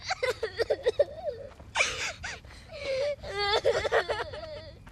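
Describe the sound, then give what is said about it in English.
Two children crying and whimpering in a continuous stretch of wavering, high-pitched wails, sobs and short gasping breaths, loud and overlapping with no spoken words. “Okay, all right, stop the waterworks.”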